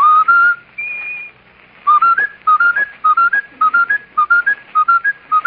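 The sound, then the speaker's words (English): Someone whistles a short phrase, then repeats a quick two-note figure over and over in a steady stuttering loop, like a skipping record. The whistling is clear and unaccompanied. “Sure, now can you whistle the broken record?”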